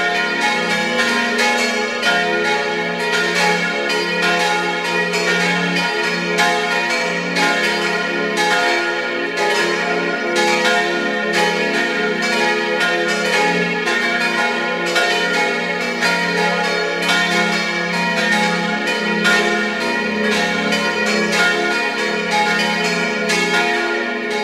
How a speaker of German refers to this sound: Es ist 12 Uhr. Sie hören die Glocken der Kirche zum heiligen Ottmar in Gaisau in Vorarlberg.